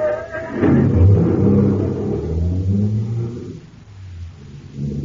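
A car engine cranks and catches, then revs with a deep, rumbling roar that rises and falls in pitch before settling into a steady idle.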